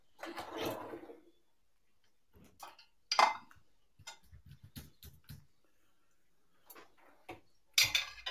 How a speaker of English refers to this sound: I don't know if you can hear me, but all I can hear is a load of dishes. I thought it was clubs in the bag.